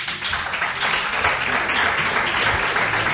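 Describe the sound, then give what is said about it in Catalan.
A crowd applauds steadily throughout, a dense wash of many hands clapping at moderate volume with no individual claps standing out and no pause. “Per dir alguna coseta, només una mica més d'entusiasme amb els aplaudiments, nosaltres ho hauríem agraït, eh?”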